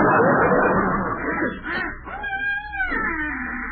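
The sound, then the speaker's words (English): A person imitates wild geese honking, with several loud, nasal, wavering calls rising and falling over a noisy background. “That was geese.”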